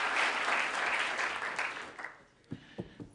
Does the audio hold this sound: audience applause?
yes